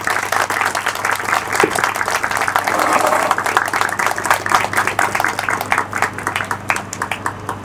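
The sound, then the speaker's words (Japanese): Sustained audience applause for the students of a school science club, a dense wash of many hands clapping at a steady loud level for several seconds, thinning slightly toward the end with individual claps standing out. “最後にこの科学部の子たちに大きな拍手をいただいて、私の方からの挨拶を終わりたいと思います。”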